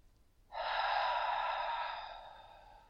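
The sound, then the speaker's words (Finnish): A single long, deep, breathy exhale through the mouth by a person relaxing in a seat, starting after a brief pause and slowly fading out over about two seconds. Fairly soft, with no talking. “Ja tähän alkuun voi myös hengittää syvää muutamia kertoja sillä lailla, että hengittää ulos aina suun kautta.”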